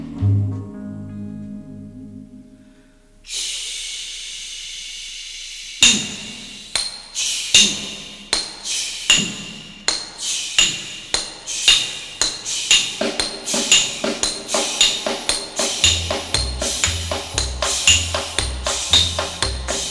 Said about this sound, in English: Listen to those hammer swingers talking to you.